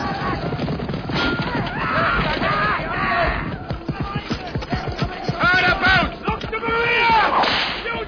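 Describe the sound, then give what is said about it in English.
Horses gallop in a loud, busy rush during a staged film battle scene with fighting, shot in Ireland on an enclosed set filled with smoke. Hooves pound in quick irregular beats while a horse whinnies and voices shout over the continuous commotion. “We could have actually shot it on location, but obviously you had to enclose it in order to keep the smoke in, and yet it had to be big enough to have horses galloping around and fighting taking place.”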